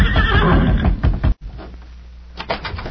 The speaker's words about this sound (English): Couldn't be two horses that sound the same. Look. It is Silver.